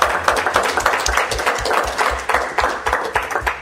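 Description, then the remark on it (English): A crowd applauds the Partially Examined Life at a live event, many hands clapping in a dense, continuous patter of sharp, bright smacks that hold an even loudness throughout, with no voices breaking through. “so please join me in a round of applause for the Partially Examined Life.”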